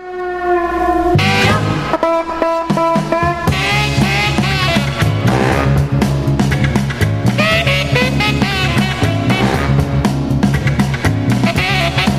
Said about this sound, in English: If a song could have a sense of humor, that one has a great sense of humor. It does. This is one of … tunes.